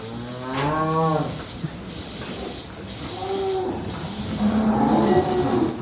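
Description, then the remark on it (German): Renate, a nearly all-black dairy cow with a white belly, lets out a long, loud moo, followed by a couple of softer, lower moos, with steady barn noise in the background, at Haus Düsse near Soest, Germany, where 150 dairy cows are milked. “Die Kuh lebt in der Nähe von Soest im Haus Düsse.”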